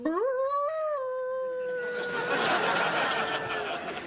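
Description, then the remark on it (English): A woman imitates a wolf, letting out a loud howl that rises and holds steady before dissolving into rougher, breathy noise, as a member of a women's Lycanthrope Society paying respects to the full moon. “Besides, you've heard me howl before.”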